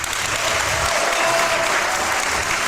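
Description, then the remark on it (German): Steady applause from an audience at the Online-Marketing-Day fills the whole stretch as a guest is welcomed, a dense, even patter of many clapping hands at constant loudness with no voices over it. “ich möchte zunächst mal meinen Gast begrüßen und ich hoffe, das Publikum wird dementsprechend applaudieren.”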